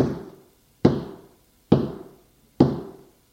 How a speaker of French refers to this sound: Et essaye de pousser la porte avec son épaule.